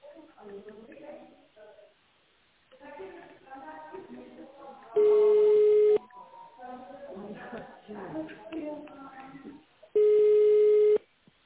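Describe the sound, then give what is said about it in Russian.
A telephone ringback tone sounds twice, each a steady, loud one-second low beep about five seconds apart. A recorded greeting from the educational company Relok speaks before and between the rings while the caller waits for an operator. “Если вы знаете внутренний номер абонента, пожалуйста, наберите его в тональном режиме или дождитесь ответа оператора.”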